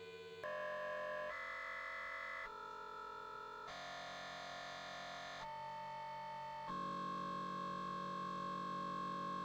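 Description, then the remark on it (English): A steady, gritty electronic hum from an audio effect plugin, with a buzzy, distorted texture, shifts abruptly through several tonal blocks as the plugin's analysis overlap setting is turned down, each block holding a sustained pitch before jumping to the next, loud and continuous with no voices. “So we're getting to more gritty sounds now.”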